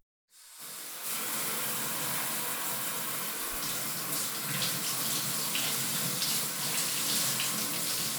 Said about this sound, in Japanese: てかさ、それならちょっとシャワー浴びてくれない？そう、シャワーしっかり温まってさ。